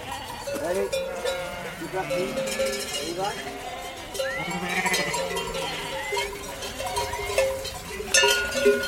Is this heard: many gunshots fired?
no